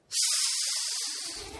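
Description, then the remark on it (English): A failed whistle: one steady, breathy rush of air lasting about a second and a half, all hiss with no clear tone, fading slightly at the end. “That's a terrible whistle.”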